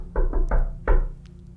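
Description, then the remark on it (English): A friendly knock by the character Calder on a door: three quick raps followed by a short pause and one final knock, moderately loud with no voices. “Yeah, Calder's going to try the friendly knock.”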